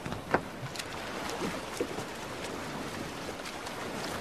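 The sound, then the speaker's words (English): A rowing boat moving on water as it goes out fishing at night, with soft splashes and a few brief knocks over a steady, fairly quiet wash of water and air; no one speaks. “So they went out in a boat, but all that night they did not catch a thing.”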